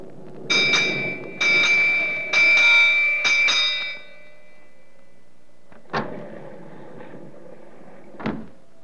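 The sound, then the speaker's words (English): A ship's bell in the wheel room strikes the hour in a quick series of bright, ringing strikes, each tone overlapping the next, aboard a ship headed from Cape Town for the Caribbean, with thunder above. After a pause, two sharp knocking thuds follow. No one speaks. “The striking of the hour is expected momentarily inside the wheel room.”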